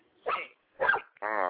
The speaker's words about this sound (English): Who has a dog? Where did a dog come from? Dog got caught up in this conversation too?